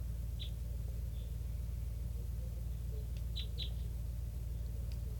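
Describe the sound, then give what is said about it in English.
Flock calls of type three birds calling from the trees by a net: a handful of brief, sharp, high-pitched notes, scattered at first and then a quick pair, heard faintly over a steady low rumble with no talking. “And they're still here, calling from the trees, and it's a flock of, sounds like pure type threes.”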